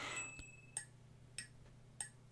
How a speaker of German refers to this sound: So hört sich jetzt nur, wenn man nur diese beiden Percussion-Elemente hinnimmt, das Glöckchen und diese Tasse Stift, die ich jetzt quasi auch nur unter den Refrain gesetzt habe, dann klingt es so.